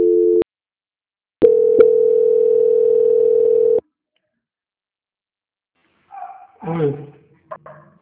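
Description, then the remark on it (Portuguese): A telephone transfer tone as a Banco Santander call is transferred to quality control: a short electronic beep, a pause, then a steady held tone lasting a couple of seconds, followed by silence and a few brief muffled sounds near the end. “Transferência.”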